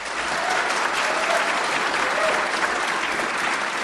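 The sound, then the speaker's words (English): An audience applauds steadily for about four seconds to vote that the item about pinball machines is the fiction, a dense wash of many hands clapping at an even, moderately loud level with no voices standing out. “All right, if you think the item about the pinball machines is the fiction, then applaud.”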